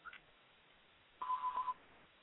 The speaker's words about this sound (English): Do you hear that beeping? Yeah, I hear a beeping. I don't know if that's who that is, but there's some sort of beeping in the background. Whatever, we'll just ignore it.